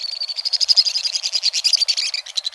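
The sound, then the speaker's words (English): Shrill, rapid twittering calls of a pair of white-throated swifts pour out in a dense, nonstop high-pitched trill, ricocheting off the sheer stone walls of a western canyon, with no voices present. “A torrent of shrill notes ricochets off the sheer stone walls of a western canyon.”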